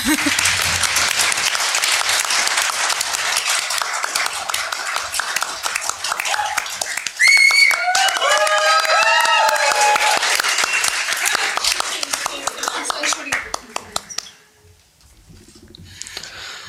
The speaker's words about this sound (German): Ich überreiche das eben und wünsche mir Applaus.